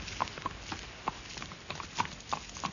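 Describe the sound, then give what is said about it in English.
Horse hooves clip-clop at a steady walking pace, with about eight sharp hollow knocks over a few seconds, heard on their own with no talking. “What do you think of the horse?”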